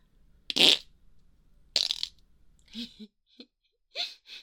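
Two loud, spluttering farts about a second apart, followed by a string of shorter, quieter puffs and squeaks trailing off. No one speaks.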